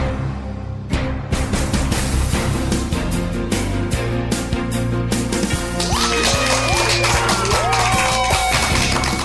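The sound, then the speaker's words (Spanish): Loud, dense clapping from a crowd with cheering and rising whistle-like shouts joining in toward the end, sustained throughout without pause. “Y con esa energía positiva y esos aplausos damos inicio a este episodio número 62 ya del programa Te Invito a un Café.”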